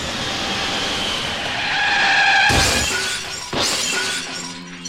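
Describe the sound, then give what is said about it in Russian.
A pepelats flying craft's landing effect as it sets down smoothly on a paid landing pad: a loud droning whine with rising tones, broken by two harsh crunching bursts of touchdown, then settling into a steady lower hum. No voices. “прилетает пепелац воров в сопровождении с пепелацем и Целопа. Приземление на платную площадку пепелацидрома прошло в штатном режиме”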